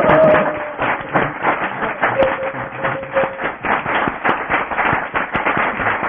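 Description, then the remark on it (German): A group applauds after a theatre play, with dense, rapid clapping that stays fairly steady for about six seconds, and a thin whistled tone rises briefly above it now and then. “Wollen wir noch einen kleinen Beifall hier loslassen?”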